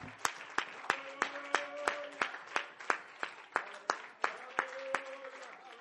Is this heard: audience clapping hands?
yes